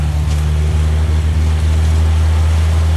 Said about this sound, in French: Bah, il marche impeccable, hein. Quart de tour. Le quart d'hélice, il est parti.